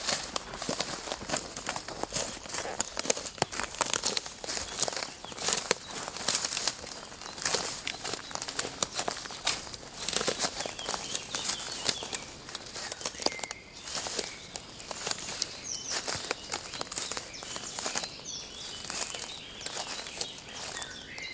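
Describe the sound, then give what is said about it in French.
Footsteps crunch steadily through dry leaves and twigs on the floor of a tree plantation, a continuous rustling walk with faint outdoor ambience and no talking. “Dans la plantation.”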